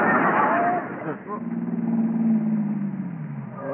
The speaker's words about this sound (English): Well, here comes that same car again. Now, that guy's been following me for an hour now.